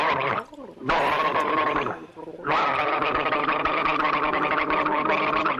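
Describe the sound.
A person gargles water in voiced bursts, imitating a car changing gear: a rising gurgle, a brief drop, then a louder, sustained bubbling gargle that carries through to the end.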